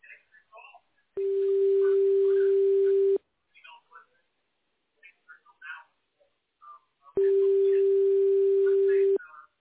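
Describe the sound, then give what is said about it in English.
A Smart Call Blocker call screening tone sounds twice, each a loud, steady, buzzy mid-pitched beep lasting about two seconds, with brief snatches of a voice in the gap between them. “Please say your name after the tone, then press pound.”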